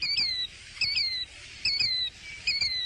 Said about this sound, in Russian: В сегодняшней передаче вы услышите интервью с птицей по имени Крикливый Зуёк.